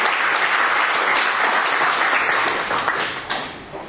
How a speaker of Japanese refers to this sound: 皆様もう一度盛大な拍手をお願いします。